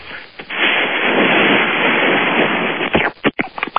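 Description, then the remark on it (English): A voice imitates water pouring with a loud, steady, static-like rushing hiss lasting a couple of seconds, then breaks into a few short, choppy bursts and clicks. “Okay, well, let's hear the sound of water pouring.”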